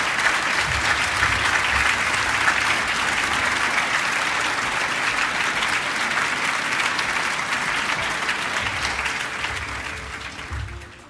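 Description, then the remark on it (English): Sustained audience applause for Austin Roos, president of the Catholic Family and Human Rights Institute: a dense, steady wash of many hands clapping at even loudness for about ten seconds before tapering off slightly at the end, with no talking over it. “Ladies and gentlemen, once again, please, a round of applause for Austin Roos.”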